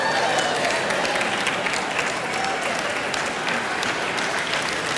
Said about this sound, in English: Look at, isn't that funny? I don't want to bring it up, but you are applauding the release of balloons.